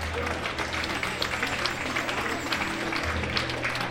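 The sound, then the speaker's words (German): An audience applauds steadily, a dense, even wash of many hands clapping at once that holds at a constant level throughout, with a low hum underneath. “Und diese junge Dame hat eine Gartenschaufel mitgenommen. Applaus!”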